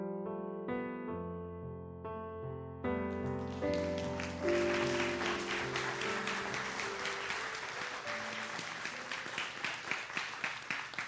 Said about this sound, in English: If y'all would please come up on stage. If you would please give them one more round of applause as they come up on stage with us.